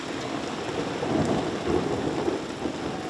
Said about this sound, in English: The sound of thunder has taken over the London skyline as tourists in London's Camden neighbourhood ran for shelter as rain poured down.